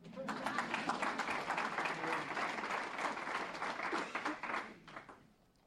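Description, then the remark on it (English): A room full of people applauds, a dense, steady wash of many hands clapping that holds for about five seconds before tapering off at the end. “If you don't clap, I'll cry.”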